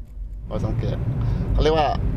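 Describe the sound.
A voice sings a short melodic song about Thailand inside a car during a road trip, with a steady low engine rumble running underneath throughout.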